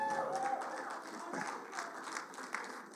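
An audience breaks into steady applause, a dense wash of overlapping claps that stays fairly even in level for a few seconds, with faint crowd murmur mixed in.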